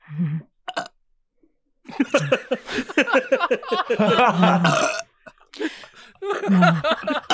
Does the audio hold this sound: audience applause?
no